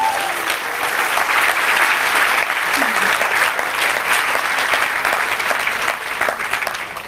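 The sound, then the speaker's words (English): Sustained applause from a large audience welcoming the host of the event Quantum in the Unknowable Universe, a dense steady wash of many hands clapping at an even, loud level for several seconds, with no individual voices standing out. “Please give a warm round of applause for your host,”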